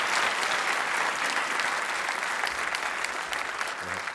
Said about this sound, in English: But we want to give you guys a round of applause. Thank you for being such a great crowd here tonight.